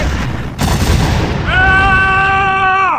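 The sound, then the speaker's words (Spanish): Gunfire opens up with a sharp, loud blast over a dense, rumbling roar of battle noise, followed by a steady, droning horn-like tone that holds to the end. “Entonces se abrieron los fuegos.”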